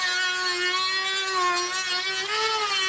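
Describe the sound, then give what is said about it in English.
A sanding wheel grinds a hole through the side of a box cabinet toward a circular mark, its motor holding a constant mid-pitched whine over a harsh, hissing scrape, loud and unbroken for the whole stretch with no voices. “These holes are far from circular, so we're going to put out a sanding wheel now and really have some fun.”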